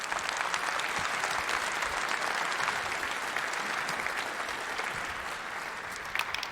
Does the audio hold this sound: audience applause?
yes